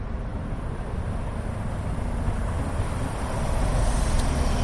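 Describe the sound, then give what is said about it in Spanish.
Steady low rumble of light traffic fills a quiet outdoor street in Madrid, a soft continuous hum with no voices, swelling slightly toward the end. “Caminar por Madrid es caminar entre el silencio, solo lo interrumpe pues algún trabajo y el leve sonido del tráfico.”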